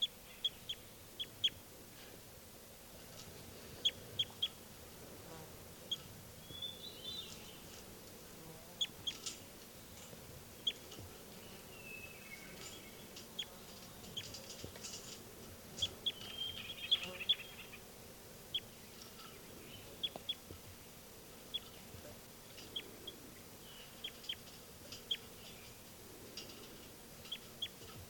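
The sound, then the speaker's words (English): Two numbered birds, 393 and 394, call back and forth in short, chirpy bursts over a steady low hum of outdoor background noise, recorded with the microphone pointed at bird 393, sporadic and fairly quiet, with no one speaking. “Start recording again, birds 393 and 394, pointed at 393.”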